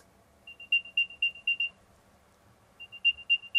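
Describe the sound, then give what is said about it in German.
An Apple AirTag tracker ringing with a series of high, chirpy electronic beeps, two bursts of rapid repeated tones separated by a short pause, fairly loud over a faint background hum. “Oder man kann, wenn man sich in der Nähe aufhält oder meint, das Gerät, dass der Schlüssel ist noch in der Nähe, kann man den klingeln lassen, sozusagen piepen lassen.”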